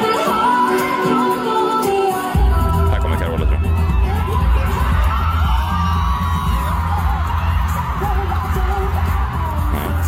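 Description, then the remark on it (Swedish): A large concert audience erupts in loud cheering and whooping as a singer appears, a dense roar of voices with shouts rising above it, filling the whole stretch and swelling stronger after the first couple of seconds. “du sa att hon fick den största poppen då, att publiken brast ut i ovationen när hon dök upp.”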